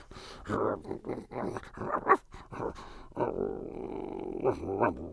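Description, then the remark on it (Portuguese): A dog whimpers and whines in a string of short, pitched cries, fairly loud, ending in a longer drawn-out whine with a low growly edge. “O cão, atrás da porta.”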